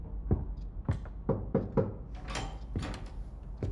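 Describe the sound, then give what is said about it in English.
Several sharp knocks on a wooden first-class cabin door on sea deck of the Titanic after its collision with an iceberg, fairly loud, landing in an uneven rhythm with a quick cluster in the middle, followed by a few duller thuds and rattles. “Fletcher Williams is in his first-class cabin on sea deck, sipping on a whiskey cocktail, when his business partner, Elmer Taylor, knocks on the door.”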